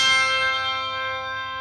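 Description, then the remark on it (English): Handbells made at a small factory in rural Pennsylvania are struck together, producing a bright, shimmering chord that rings out and slowly fades over a second or two, fairly loud, with no one talking. “Handbells.”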